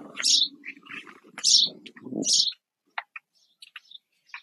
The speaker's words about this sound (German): Weil sie sind jetzt sehr, sehr laut auf dem Mikro gerade. Ja, das ist jetzt die Zeit, wo die Vögel aufwachen.